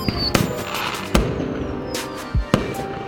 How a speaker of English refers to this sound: on the 4th of July, our neighbors had fireworks, and they made a huge explosion, and it set off lots of car alarms, so that made me laugh during the 4th of July.